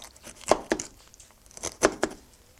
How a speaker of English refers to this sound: I am cutting it because I'm going to have a pineapple salad.